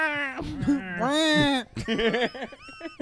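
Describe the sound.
A person imitates a cat's meow, drawing out two long, wavering, whiny meows, then breaking into shorter choppy vocal sounds.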